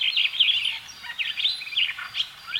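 Starlings chatter busily and nonstop, a jumble of bright whistles, squeaky chirps and raspy notes overlapping at moderate volume, with no voices.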